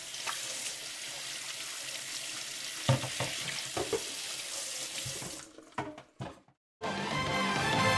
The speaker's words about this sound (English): Sucks out all those rocks he put down the pipe and puts in the big long key. Hey, you hear that water?